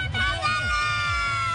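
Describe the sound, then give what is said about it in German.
A loud, continuous, dense crowd din with children shouting together over a steady tonal backdrop like festive music, at a Rosenmontag carnival parade where the children shout "Kamelle!" for sweets and popcorn. “Ja, und weil die so laut schreien, wird ihnen das sogar in die Tüte gelegt.”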